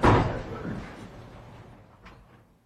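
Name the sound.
door closing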